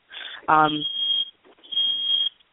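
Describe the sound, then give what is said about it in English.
A smoke alarm in an apartment, set off by the oven, sounds in two long, shrill, high-pitched bursts separated by a short pause, fairly loud, with a brief voice sounding over the start of the first burst. “Why would the smoke alarm be going off?”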